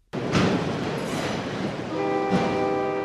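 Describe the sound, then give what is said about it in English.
A freight train rolls past on railroad tracks that supply a Chrysler plant, a loud, steady roar of rumbling cars on the tracks, with a sustained tonal whine or horn-like blare joining in over the last second. “Across the street, the railroad tracks that help supply the plant.”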